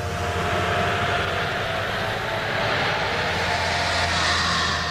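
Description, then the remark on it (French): A futuristic metro-like transport shuttle speeds at full speed through its tube across a base: a loud, steady rushing hum with a droning mechanical tone, sustained throughout, with no voices. “C'est une sorte de métro qui traverse la base à toute vitesse.”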